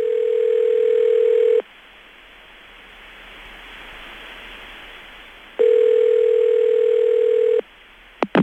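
A steady telephone line tone before an answering machine sounds for about two seconds, gives way to a stretch of hissing static, then returns for another two seconds before a couple of sharp clicks at the end.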